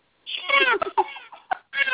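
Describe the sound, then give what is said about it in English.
A person's voice imitates a cat, making a few drawn-out meows with short breaks between them, high and nasal, with no other sounds around. “I already did the kitty cat.”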